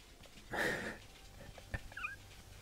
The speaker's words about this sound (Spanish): Eso que se oye es mi perra pasando por debajo.